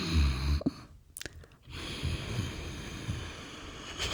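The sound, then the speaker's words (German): Hoarse ujjayi ocean breathing made by slightly tightening the vocal cords, sounding close to snoring: a slow, airy rush of breath drawn through a tightened throat, with a brief lull midway before the raspy airflow resumes. “Das ist aber auch so ganz kurz vorm Schnarchen. Also du musst quasi so deine wie heißt das hier, Stimmbänder so ein bisschen so zusammenziehen.”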